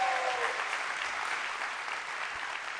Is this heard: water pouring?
no